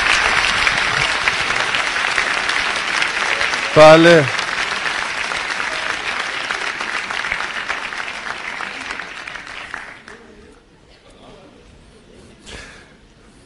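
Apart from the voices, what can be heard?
audience applause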